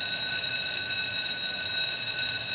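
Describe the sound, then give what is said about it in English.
A school bell rings continuously at the end of lunchtime, with a loud, steady electric clang that holds without pause from start to finish. No one speaks. “That's the bell. Lunchtime's over.”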